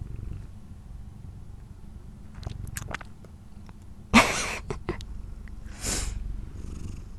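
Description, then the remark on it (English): A cat purrs steadily on a bed, a low continuous rumble throughout, broken by a couple of brief breathy bursts partway through. No one speaks. “Cat, I don't know what to do with you. Can you please go away?”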